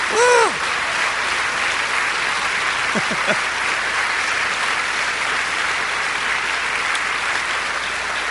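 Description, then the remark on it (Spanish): An audience at a church service breaks into sustained applause for the Lord, a dense, steady wash of clapping lasting several seconds, with a brief voice at the start and a few faint vocal exclamations mixed in. “¿Por qué no le dan un aplauso al Señor?”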